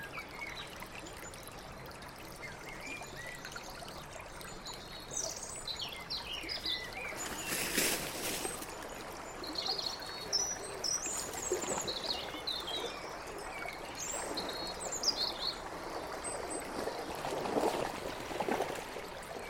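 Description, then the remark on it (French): A small stream at a waterfall trickles and gurgles steadily throughout, a continuous wash of flowing water, with faint bird chirps scattered high above it and no voices. “Mais un petit courant par là.”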